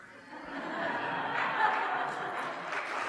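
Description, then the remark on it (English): An audience claps in a steady, dense patter for about three seconds, swelling slightly in the middle, with a few murmurs and light chuckles mixed in. “Hey, I got claps for that one.”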